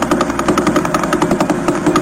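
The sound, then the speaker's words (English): A Vela Pulsar space sound: a loud, steady stream of rapid ticking pulses, roughly ten per second, merging into a gritty mechanical buzz with no voices. “Next is Vela Pulsar.”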